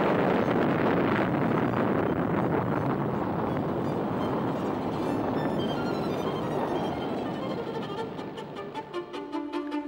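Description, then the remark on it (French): A loud, sustained rumbling roar from the explosion of the first French atomic bomb, in an original recording from the French national defence, a dense wall of low, rushing noise that churns steadily before thinning slightly toward the end, with no voices. “Ici la Défense nationale, voici en toute première mondiale, puisque c'est le document original que nous vous faisons entendre, le bruit de l'explosion de la première bombe atomique française.”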